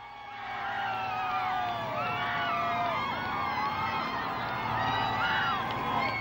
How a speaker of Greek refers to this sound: Καταρχήν, οι όμηροι φτάνουν στην Φρακφούρτη. Υπάρχει κόσμος στο αεροδρόμιο, ο οποίος φωνάζει, όπως ακούτε, μέσα σε ένα τρομερά συγκινητικό κλίμα, USA.